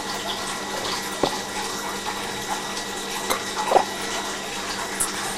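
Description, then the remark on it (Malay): A steady rush of running tap water as a child plays with it, with a few soft knocks and splashes as it flows, fairly loud, with no voices. “Udah nggak usah main air.”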